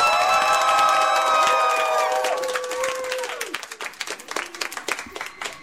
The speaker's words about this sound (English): We're here at our MomoCon panel, Atlanta, Georgia. Can we get some applause? Woo!